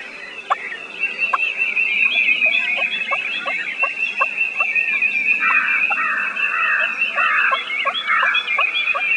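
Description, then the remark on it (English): A turkey, sitting off the ground, gives a tree call: a steady series of short, soft yelps and clucks repeated at an even pace, set against a constant high-pitched chorus of other birds or insects. “It's a turkey tree call.”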